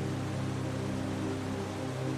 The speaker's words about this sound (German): Es rauscht und plätschert, tost und tobt. Es ist ein bekanntes Geräusch, das uns zu sich lockt. Das Fallen riesiger Wassermassen verrät uns, dass der Thanthadee-Wasserfall-Nationalpark nicht mehr weit sein.